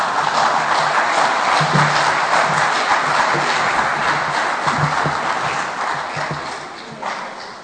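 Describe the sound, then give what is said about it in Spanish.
Steady applause from an audience welcoming a young girl violinist to the stage, a dense crackle of many hands clapping at once, holding loud throughout before easing slightly toward the end. “Un fuerte aplauso.”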